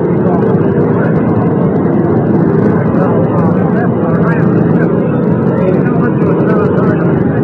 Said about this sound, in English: An Army helicopter has just landed, making a great deal of noise.